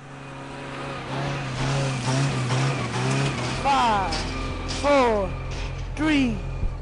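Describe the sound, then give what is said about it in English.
Flamethrower truck engines rumble steadily and rev up several times in rising, whining sweeps, loud, with indistinct voices mixed in underneath, as the trucks drive along a sugarcane field to set the crop alight. “Groups of kids stand by the side of the road, armed with broken sugarcane stalks, counting down the seconds until flamethrower trucks set the crop alight.”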